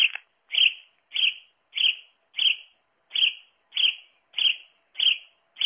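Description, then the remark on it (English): A house sparrow call played from an Audubon electronic bird toy: about ten evenly spaced, bright chirps, each brief and similar, repeating steadily at moderate loudness with silence between, no voices. “Yeah, so after a sparrow joke, we'll have the artificial bird of the week for this week, which is the house sparrow.”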